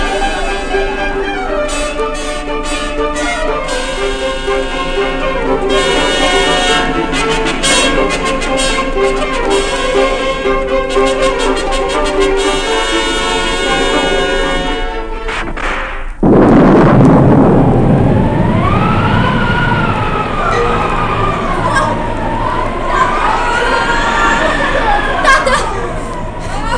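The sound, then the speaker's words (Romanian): Lively music plays for about sixteen seconds, then cuts to a roaring storm: loud, rumbling, fierce wind that bends old oak trees, with high, wavering howls that rise and fall steadily until the end. “Vântul năprasnic s-a strâmit, mi-e frică.”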